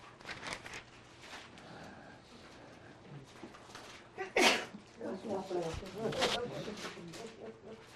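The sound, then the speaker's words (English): A single sharp, loud sneeze bursts out partway through, set against ongoing speech and room sounds before and after it. “God bless you.”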